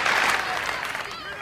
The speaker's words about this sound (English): nods and applauds.